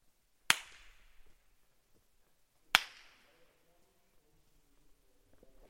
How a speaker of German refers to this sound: wir hören mal, wie lange der Ton, das Klatschen noch nachhallt.